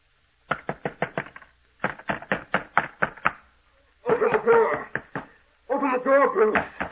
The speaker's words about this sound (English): Open this door. It will be your duty to get him to quiet down. Keep him from pounding on this door.